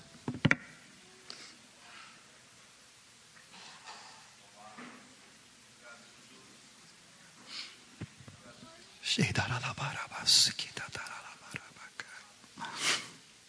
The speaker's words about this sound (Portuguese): Eu tenho que assoar o nariz.